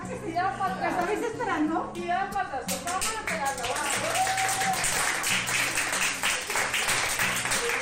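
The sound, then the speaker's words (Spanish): A small group of doctors and nurses breaks into steady, enthusiastic applause as a baby leaves a hospital intensive care unit, the clapping building after a few seconds, while several people talk and call out over it. “Médicos y enfermeras aplaudiendo su salida, aunque él se ha enterado de poco, claro, iba plácidamente dormido en el carrito.”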